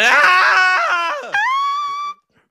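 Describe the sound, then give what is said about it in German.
A person lets out a loud, strained scream lasting about two seconds, wavering at first, then jumping to a higher, sustained shriek before cutting off abruptly. “ich möchte dich jetzt gern schreien hören.”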